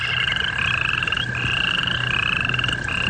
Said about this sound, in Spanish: Ahí los sapos organizaban sus conciertos vespertinos.